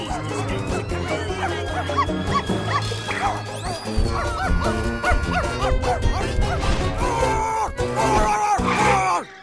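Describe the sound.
A person imitating a dog barks and yips several times in quick bursts over a busy musical background, loud, with whimpering dog-like cries mixed in.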